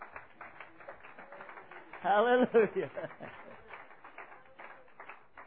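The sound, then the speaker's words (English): A church audience claps their hands to Jesus in a steady, dense patter throughout, with one voice briefly calling out loudly over the clapping midway. “Let's clap our hands to Jesus.”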